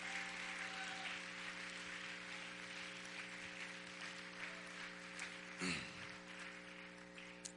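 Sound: audience hand clapping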